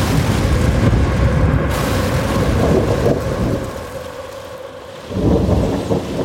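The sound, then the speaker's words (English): Heavy rain pours down steadily as thunder rumbles low and loud through the downpour, with a deep roll swelling again near the end, on a raw, rainy Sunday night in Teaneck, New Jersey, near New York City, March 6, 2011. No voices are heard. “March 6, 2011, a raw and rainy Sunday in Teaneck, New Jersey, minutes from New York City.”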